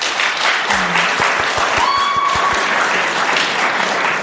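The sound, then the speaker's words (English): An audience claps steadily when asked to clap if they prefer the non-tinkered-with version, a dense crackle of many hands filling the whole stretch, with a few sharper rhythmic claps standing out briefly and a faint whistle rising partway through. “Clap your hands if you prefer the non-tinkered with version.”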